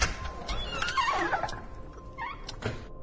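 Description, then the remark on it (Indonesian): A door creaks open: a drawn-out, wavering hinge squeak, a shorter squeak after it, then a soft knock near the end. There are no voices. “Kali ini terdengar suara pintu dibuka.”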